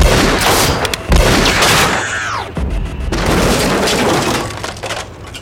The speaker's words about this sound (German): Und mit ein paar Schüssen aus meiner guten alten Magnum knackte ich jetzt auch noch die Stahlhüllen der Drohnen. Jackpot.